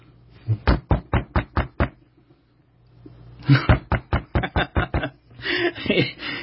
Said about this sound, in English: Knock, knock, knock, knock, knock. Get up and give me some bread. I'm in the bed.